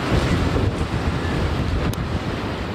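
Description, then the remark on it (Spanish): Roaring winds of Hurricane Fiona striking Punta Cana in the east of the Dominican Republic in the early morning: a loud, unbroken rushing roar with heavy low rumble and gusts buffeting the microphone throughout, with no voices. “El fuerte rugido de los vientos de Fiona invadían la región este del país.”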